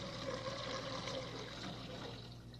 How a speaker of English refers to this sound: Yeah, I think this should be ready now. Take the bottle out and pour out the hot water first.